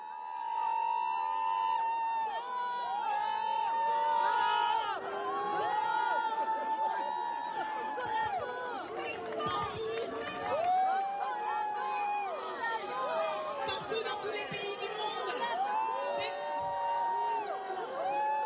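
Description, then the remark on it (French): A large crowd, women among them, boos and jeers a woman speaker without pause, many voices overlapping in long, wavering calls and shouts that stay loud and dense for the whole stretch. “Elle est huée et par des femmes.”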